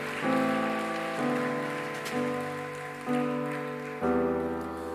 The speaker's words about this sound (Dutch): Zullen we gewoon eerst een applaus geven, ook voor een mooie echtpaar.